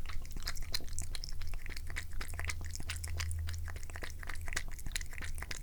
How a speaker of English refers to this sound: Anyway, so here's my cat drinking water. Now I put the microphone down and she stopped. Here, drink it up. It's good. It makes good radio.